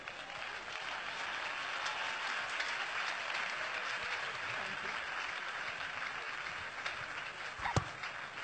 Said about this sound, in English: Can you clap better than that?